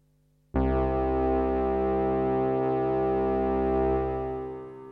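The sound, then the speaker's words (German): A sustained synth pad built from two sawtooth VCOs and one hard-synced sine VCO enters abruptly and holds a rich, buzzy chord with a slowly shifting timbre, then thins slightly toward the end. No voices. “Der Klang besteht zunächst aus einem Flächenklang, der aus zwei Sägezahn-VCOs und einem hart gesynkten Sinus-VCO besteht.”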